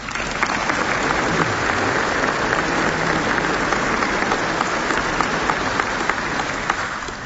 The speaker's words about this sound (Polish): Wielkie brawa dla was.